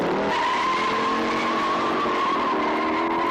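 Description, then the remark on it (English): Tires screech in a long, sustained squeal over a revving car engine during a car chase in the movie Bullet, the high whine holding steady before shifting pitch near the end, with no voices. “We give them star turns in movies like Bullet.”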